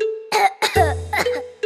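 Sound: coughing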